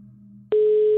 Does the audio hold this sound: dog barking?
no